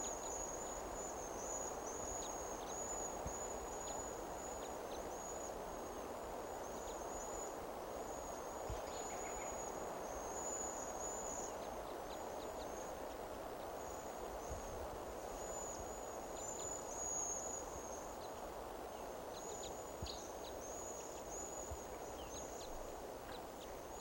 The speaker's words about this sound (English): Well, birds are calling more like they're gonna fly.